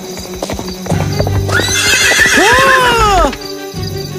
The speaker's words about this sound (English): Watch where you're going, lad. You watch it, lad. You are not supposed to ride a horse in the middle of the street.